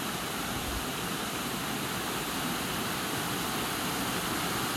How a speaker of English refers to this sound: Looking in the other direction, just before the falls, and looking further up the stream, which looks as calm as anything. The water doesn't necessarily know of its adventure to come as it plunges down over the falls.